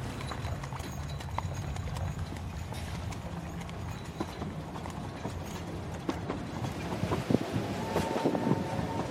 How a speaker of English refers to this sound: So now we're set, we've got London Bridge, we've got the old trains coming to London Bridge now behind us. We're in a kind of covered walkway.